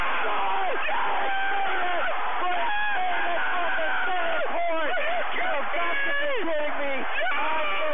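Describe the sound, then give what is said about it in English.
A basketball crowd roars and cheers after a game-winning shot from center court with one second left, making the score 45-43: a loud, sustained wall of shouting with high whoops and screams rising and falling throughout. “That basket was good. And the celebration is on.”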